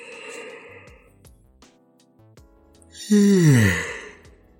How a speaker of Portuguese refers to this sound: Ah, nossa, você está bocejando? Sim, estou bocejando. Porque agora já são 2 horas e 30 minutos da manhã